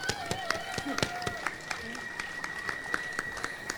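Steady, rhythmic hand clapping, like a single person applauding, with crisp evenly spaced claps over a faint humming background.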